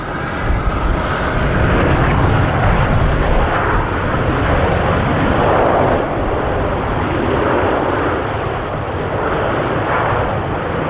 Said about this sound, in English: Have you ever been on a plane before? You must be familiar with that sound.